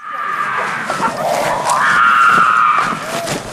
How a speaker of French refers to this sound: Les cris de cet enfant dans la nuit, qui durent encore et encore, qui cherche à hurler son désespoir et si mal géré par l'équipe éducative, c'est la scène la plus choquante.